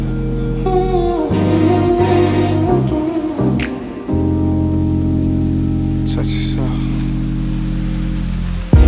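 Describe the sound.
Heavy rain hisses steadily beneath sustained synth chords and low bass tones, continuous for the whole stretch, with a brief spoken or sung voice near the start.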